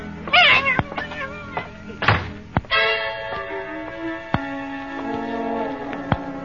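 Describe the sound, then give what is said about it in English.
A cat meows a couple of times while stamping around, mixed with sharp thumps and knocks, before a steady sustained tone takes over in the background. “She's meowing and stamping around here like a herd of elephants.”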